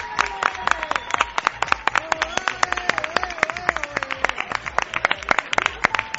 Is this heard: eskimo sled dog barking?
no